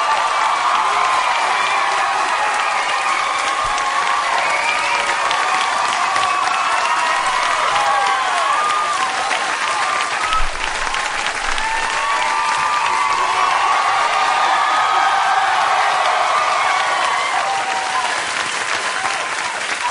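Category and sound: crowd, audience applause and cheering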